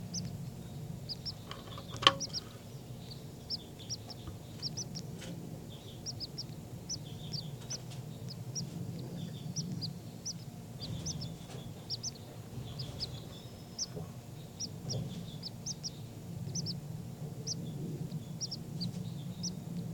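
Baby birds call over and over in a steady stream of short, high-pitched chirps, fairly faint, above a constant low rumble with no talking.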